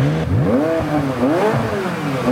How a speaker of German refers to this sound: und kann mir auch bei Regen und schlechtem Wetter und geschlossenem Dach den wunderschönen Motor- und Auspuffsound ins Auto holen. Deswegen nenne ich es immer die Soundtaste. Es ist was für Genießer.